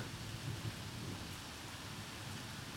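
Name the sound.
rain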